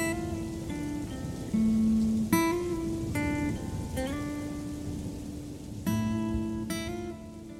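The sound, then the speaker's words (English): Steady rain from a storm hisses throughout, a dense wash of falling drops, while sustained tonal notes change pitch over it every second or so. No one speaks. “A day later, and a storm did appear.”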